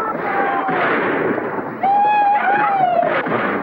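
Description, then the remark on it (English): Three men of the Bar X outfit gallop their horses down Main Street firing pistols into the air amid a dense, noisy commotion, joined midway by a long, high whooping yell that rises and falls for over a second. “When the men look out, they see three guys galloping their horses down Main Street and firing their pistols into the air.”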